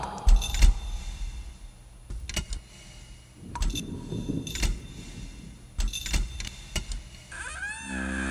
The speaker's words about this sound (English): I thought I never again would hear that door open. At least not until our execution.